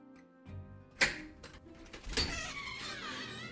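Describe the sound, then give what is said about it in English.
A heavy, unmarked black metal door inside Assembly Hall at Indiana University is pushed open by a facilities director, with a sharp clunk of the latch followed by a second scraping thud as it swings, with a low hum underneath. “This is it, Indiana University Facilities Director Chuck Crabb says as he pushes open the door.”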